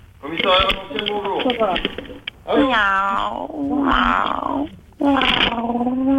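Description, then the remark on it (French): A person mimics a cat, giving three drawn-out, wavering meows with short pauses between them, fairly loud, with a slightly muffled, phone-like tone. “Miaou.”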